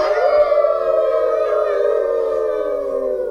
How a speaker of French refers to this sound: Les loups de la grotte répondirent par un hurlement collectif.